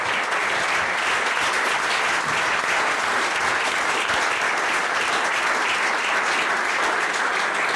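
crowd, applause

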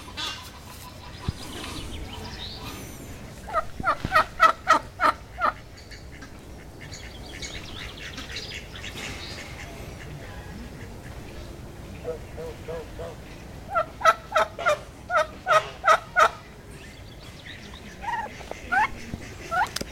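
bird, turkey gobbling

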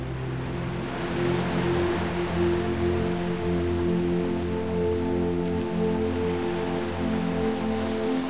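nature, ocean waves rushing

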